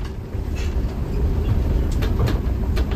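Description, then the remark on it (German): A steady low rumble of a train idling at the station in Stockach on a Sunday morning as many day tourists board, with occasional sharp clanks and clicks over a constant background hiss. No one speaks. “Es ist Sonntagmorgen am Bahnhof in Stockach. Viele Tagestouristen steigen ein. Fahrkarten kaufen sie im Zug”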